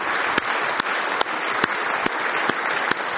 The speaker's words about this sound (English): Do you love Him with all your heart this morning? Give Him one more big hand clap of praise if you love Him this morning.